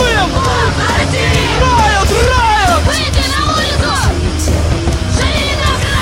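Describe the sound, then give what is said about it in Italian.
About 20 people of the group Pussy Riot shouting and yelling together at a protest on a rooftop at Red Square in Moscow, with a flag and guitars; overlapping voices rising and falling loudly and continuously, with a busy crowd hubbub underneath. “Sono 20 urlando, c'è una bandiere, chitarre.”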